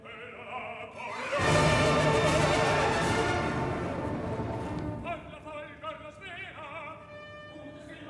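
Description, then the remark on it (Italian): A wind machine's whooshing roar swells within a loud orchestral storm passage, the opening storm of Otello, with blaring sustained chords that later thin into agitated, rising and falling string figures. “Di nuovo il vento.”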